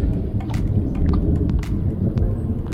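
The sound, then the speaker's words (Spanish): Deep, continuous thunder rumbles steadily throughout at a place where people come to fish, with a few faint crackles and patters on top and no one speaking. “¿Pueden escuchar los truenos?”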